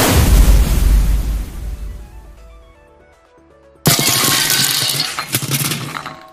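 In a video game, a deep, booming fire cannon blast, launched from block 10, rumbles and fades with ringing tones, then a sudden loud shattering crash of blocks breaking bursts in and crackles on to the end, with no voices.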